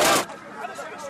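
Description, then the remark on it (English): A crowd of Libyans shouting in celebration in the streets of Sirte, Libya, after the death of Muammar Gaddafi in October 2011: a loud, harsh burst of voices at the start gives way to a dense, steady babble of many people yelling together. “Libyans celebrating in the streets of Sirte after the death of Muammar Gaddafi and shouting in the middle of it all, wearing a Yankees baseball cap and waving the golden revolver of Colonel Gaddafi, was a young man named”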